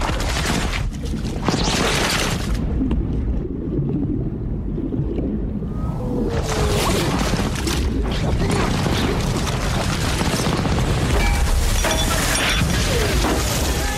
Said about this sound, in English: The men are trying to get off the boat. And when they go underwater, he makes us go underwater, not just visually, but with sound. Here, let's listen to that.